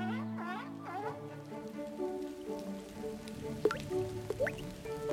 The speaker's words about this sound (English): Drip, drip, drop, drop, drop. Blue droplets fall outside. Ugh, look, it's raining, pouts Sis.